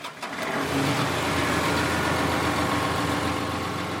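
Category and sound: vehicle, tractor engine running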